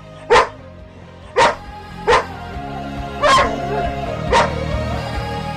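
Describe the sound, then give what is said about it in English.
A dog barks five times at uneven intervals, each bark sharp and fairly loud, with quiet background between them and no one talking. “love hearing sound theology while walking the dog.”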